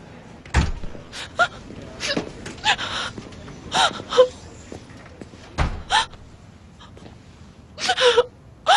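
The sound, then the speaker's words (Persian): A person sobs and wails in uneven bursts, with sharp gasping breaths between cries and a couple of thuds, fairly loud, with no clear speech. “میدونی وقتی اینجوری گریه میکنی نمیتونم باهات حرف بزنم، پس خودتو کنترل کن.”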